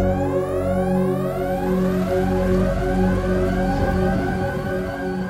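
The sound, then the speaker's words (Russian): Loud alarm sirens wail continuously under the metal ceiling of an airlock, their rising and falling tones overlapping in repeated sweeps over a steady low droning hum, with no voices present. “В этот момент под металлическим потолком шлюза завыли сирены.”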